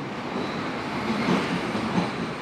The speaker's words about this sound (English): I'm in the Berlin subway, the U-Bahn.